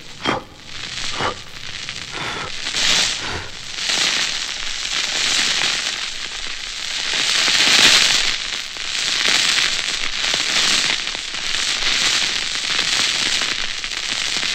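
A fire that has almost gone out crackles and pops, with sharp snaps at first, then a steady roaring hiss that swells and eases in waves as air is blown into the flames to bring it back to life. No one speaks.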